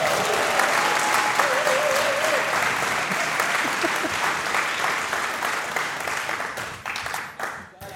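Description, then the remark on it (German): An audience applauds loudly and steadily, a dense wash of clapping with a few scattered voices, gradually thinning toward the end. “Neun Kilo hat der Mann abgeworfen, dafür mal einen extra Applaus.”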